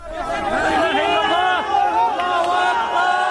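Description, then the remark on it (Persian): A crowd shouts and cheers joyfully as a teenager is pulled alive from earthquake rubble in the town of Jandairis, northwest Syria, more than 72 hours after the 7.8-magnitude earthquake. Many overlapping voices rise and fall in loud, excited calls with no pause for the full few seconds. “صدای فریادهای شادی در پی خارج کردن یک نوجوان زنده از زیر آوار در شهر جندیرس واقع در شمال غرب سوریه پس از گذشته بیش از 72 ساعت از زلزله.”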